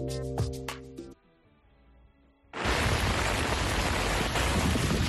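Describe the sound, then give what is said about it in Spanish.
A short musical sting fades into a quiet pause, then intense morning rain bursts in, a loud, dense, steady downpour that continues without letup to the end. “A pesar de la lluvia intensa, los bomberos no han registrado ninguna incidencia destacable esta mañana.”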